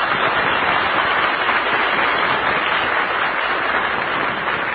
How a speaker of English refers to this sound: Let's send them a cheer from the home base.